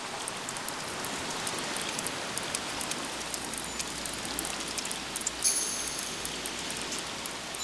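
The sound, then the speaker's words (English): Crabs pick at algae on the rocks of a rock platform as night falls in Bootery National Park, a dense, steady crackle of countless tiny clicks and scrapes, like fine rain, with a few sharper ticks and no voices. “and you can hear the crabs picking algae off the rocks.”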